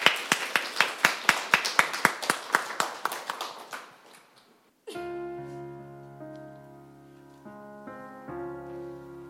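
Brisk clapping from an audience for about four seconds, fading into a short silence before a soft, sustained instrumental intro with piano-like chords begins.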